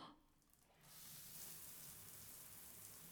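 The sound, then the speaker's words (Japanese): A shower bursts on after a brief quiet moment, its steady hissing spray pouring continuously, a broad wash of water noise that stays even until the end, as the shower rinses soap foam off a person's upper and then lower body. “十分綺麗に洗ったから、シャワーで洗い流すね。”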